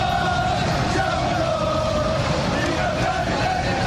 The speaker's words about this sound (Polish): No i mają już 17 punktów przewagi nad lokalnym rywalem, dlatego na boisku wykrzyczeć mogli, że są mistrzami.